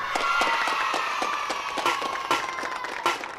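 A crowd applauds steadily throughout, welcoming a six-year-old child singer from Albarè near Lake Garda. The applause is a dense wash of many hands clapping at even loudness, with a few sharper individual claps popping out near the end.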